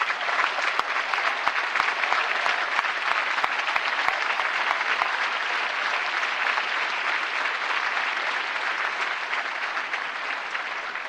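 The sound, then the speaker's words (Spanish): A large audience applauds steadily, a dense wash of clapping that holds at a fairly even, loud level for about eleven seconds, with a few sharper individual claps standing out early on. “Y realmente, por el ejemplo, por la valentía, por el coraje, por la convicción, les pido que se den un enorme aplauso todos juntos, por favor.”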